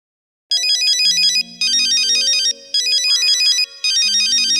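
A phone ringtone rings loudly in four repeated bursts with short gaps between them, a bright electronic trill over a low synthetic melody, with no voices present.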